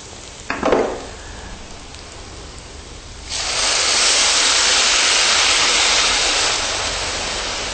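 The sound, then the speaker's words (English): After a quiet stretch with a brief clatter, a loud, steady hissing sizzle suddenly erupts as water is added to a hot frying pan of oil-coated soya protein, roaring and only slightly easing by the end. “Okay, once it looks like most of the oil has been soaked up, you can then add some water.”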